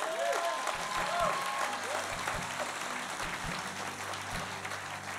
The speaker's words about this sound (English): Your pastor, he's so special. You can give him a clap